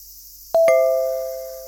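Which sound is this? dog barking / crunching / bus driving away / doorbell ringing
doorbell ringing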